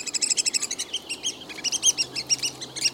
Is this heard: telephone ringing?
no